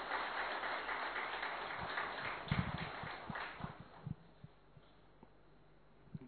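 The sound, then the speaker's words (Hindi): Audience applause welcoming speaker Dr. Swaminathan onto the stage, a dense patter of many hands clapping that thins out after a few seconds into scattered individual claps before fading away. No one speaks. “हम सभी करतल धनियों के साथ ध्वनि के साथ हमारे बीच हमारे वक्ता डॉक्टर स्वामीनाथन का जोरदार ताली से स्वागत करते हैं।”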